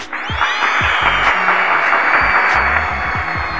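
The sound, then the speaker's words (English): A round of applause on a radio broadcast for a new song that came in at number one on the international chart: dense, steady clapping that fills the whole few seconds at an even, fairly loud level, with some low thumps underneath and no voices. “Yes, that's definitely a well-deserved round of applause for an awesome cut.”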